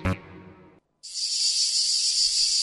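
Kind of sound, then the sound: insect, cicada chirring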